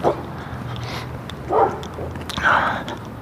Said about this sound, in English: Easy, dog, Rudy, easy.